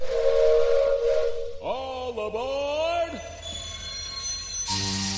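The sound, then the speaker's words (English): A steam train whistle sounds one long, wavering blast lasting over a second, set against a steady background hiss of escaping steam that swells again in a sharp rush at the end, as the Sleepless Express prepares to depart. “The train will be departing shortly.”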